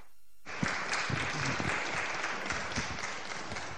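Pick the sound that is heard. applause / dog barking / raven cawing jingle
applause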